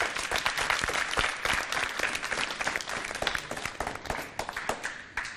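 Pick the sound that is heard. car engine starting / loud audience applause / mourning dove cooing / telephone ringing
loud audience applause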